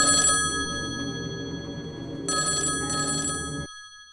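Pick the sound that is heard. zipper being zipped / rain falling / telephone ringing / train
telephone ringing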